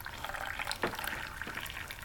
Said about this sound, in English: Jiro pours himself a cup of tea